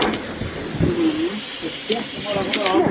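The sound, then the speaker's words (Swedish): A bus pulls in to a stop with a steady, loud hiss of air and engine rumble running throughout, while people's voices talk briefly over the noise. “Nu kommer det en buss till här.”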